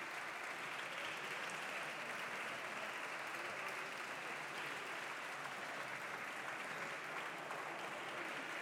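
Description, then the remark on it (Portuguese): Sustained applause in a parliament chamber for a delegation of a citizens' movement, accompanied by many children in the gallery, that presented a bill on initial parental leave; a dense, steady wash of many hands clapping at an even loudness for several seconds, with no voices standing out. “Está na galeria, estão presentes na galeria, uma delegação deste movimento de cidadãos que apresenta este projeto de lei, aliás acompanhado por inúmeras crianças, como podem ver, e peço um aplauso para estes cidadãos.”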